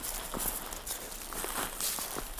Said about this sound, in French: Et j'aime bien aussi ce son-là, tu vois, le craquement... Le craquement des feuilles, ah, je sature un peu, ouais, le craquement des feuilles et du bois sec.